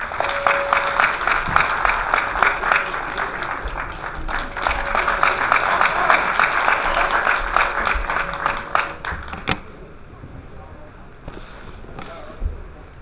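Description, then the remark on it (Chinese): Warm, sustained applause from an audience welcoming a xiangsheng (crosstalk) teacher, a dense steady patter of many hands clapping for about nine seconds before cutting off sharply into a quieter background. “下面用热烈的掌声有请童老师。”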